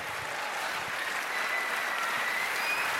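An audience claps steadily for the event's camera operator, a dense, even wash of applause that holds at a constant level for about three seconds, with no voices rising above it.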